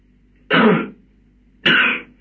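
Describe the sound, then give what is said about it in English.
Two harsh, raspy bursts of coughing and throat clearing from a man with a lingering bad cough, fairly loud, each lasting about half a second with a brief pause between them; no one speaks. “He has a very bad cough still.”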